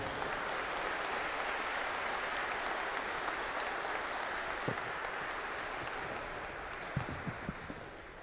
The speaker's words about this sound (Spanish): Un aplauso fuerte para nuestras madres.